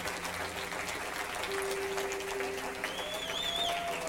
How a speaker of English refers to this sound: Oh, let's keep clapping. We got more people now.